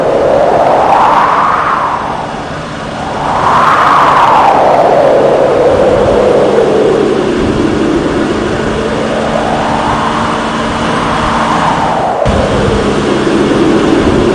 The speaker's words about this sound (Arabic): تتزايد سرعة الريح حوله كثيرا، جاعلة الإعصار يرتد إلى الأعلى بسرعة ويمتص الهواء من مسافة تفوق الميل.